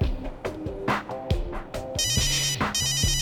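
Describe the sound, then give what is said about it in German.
A mobile phone rings for an incoming call with a bright, repeating electronic ringtone melody, fairly loud, with rhythmic tones cycling continuously and no one speaking. “Wow, der ist schnell. Na los, geh ran.”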